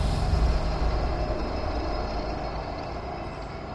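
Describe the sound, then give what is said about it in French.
A deep, continuous rumble of a subway train passing beneath a basement, heavy low-end roar with a steady mechanical hum, loud, slowly easing off over a few seconds with no voices. “quand on est dans ce sous-sol, on entend, peut-être l'entendrez-vous tout à l'heure, le bruit du métro. Le métro qui passe en dessous de soi.”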